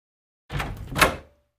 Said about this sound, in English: Jack awoke to the sounds of his hut door opening.